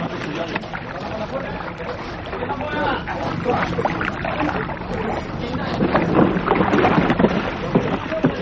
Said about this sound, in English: The boat. Quick! Come on, the lot of you. Get a couple of those boats launched. Quick! Damn you!